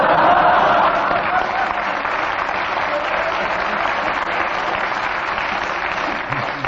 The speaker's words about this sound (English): So Derek gets a round of applause and gives Clement Freud another point.